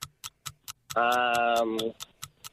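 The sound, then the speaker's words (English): A 10-second countdown timer in a cash quiz game ticks in a quick, steady rhythm. Partway through, a loud, droning harmonic buzz sounds for about a second while the ticking continues. “Inside the 10 seconds, I need to name me 5 answers before the 10-second timer buzzes out.”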